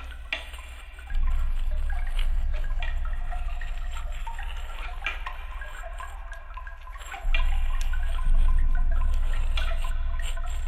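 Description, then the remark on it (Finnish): Water trickles and splashes steadily over rocks at the foot of a rock cliff, a continuous bright rushing texture with no voices, while a low rumble beneath it swells and eases at moments. “Vesi siinä kallion tuntumassa.”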